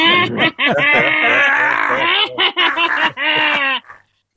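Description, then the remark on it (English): A voice imitates a goat's bleat: a loud, quavering cry broken into several wavering bursts over about four seconds, then quiet. “That's a goat.”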